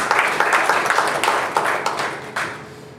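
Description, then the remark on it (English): An audience bursts into applause for the Lord, a dense wash of many hands clapping at once that holds steady for a few seconds before thinning out and fading near the end. “Give the Lord a hand of applause for that.”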